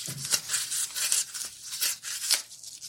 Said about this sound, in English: Now we've got cracking polystyrene. Oh, see, I don't mind that one. Because that's kind of like crunching pickles. There's a bit of crunchiness there. I don't mind that.